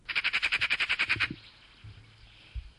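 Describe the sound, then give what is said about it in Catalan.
A magpie's harsh, rattling chatter: about a dozen rapid, evenly spaced raspy notes in a loud burst lasting just over a second, followed by faint low rumbling and near quiet. “I ara compareu-lo amb el de la urraca, que és el que tenia el David a la finestra de casa seva.”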